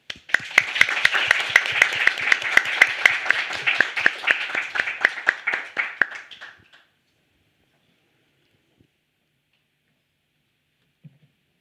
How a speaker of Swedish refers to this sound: Och inte minst ett stort tack och en applåd till panelen.